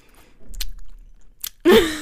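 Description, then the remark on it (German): Loud lip-smacking chewing right into the microphone, a few wet smacks and squishes building to a final loud burst with a brief vocal hum. “Ich will so richtig laut ins Mikrofon schmatzen.”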